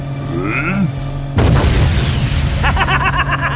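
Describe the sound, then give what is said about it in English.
A single loud grenade blast, from a fizzing grenade held in both hands, erupts partway through, leaving a rumbling, crackling tail. Quieter tonal warbles come before it, and rapid chirping pulses follow as the rumble fades. “He was staring down at the fizzing bomb, cradled in both hands, when JB swept by.”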